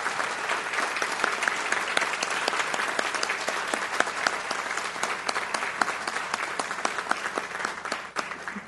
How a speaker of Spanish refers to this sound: Por eso, un fuerte aplauso a toda la comunidad universitaria.